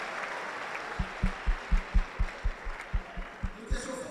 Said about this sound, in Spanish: Por favor, aplaude para la iglesia.